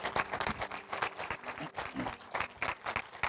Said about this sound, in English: Let's give the Lord a clap offering for that word.